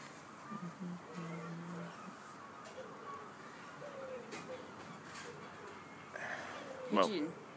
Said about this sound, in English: Oh, and me humming.